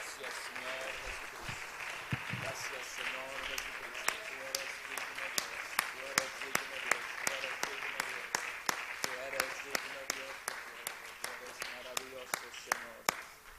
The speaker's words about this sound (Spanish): ¿Por qué no le damos, amén, un aplauso a nuestro Dios? Aleluya.